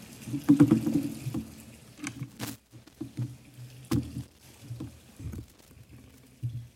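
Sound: flowing water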